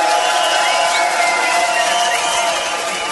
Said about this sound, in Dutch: die heeft de hele avond nog geen applaus gehad. Give it up voor …!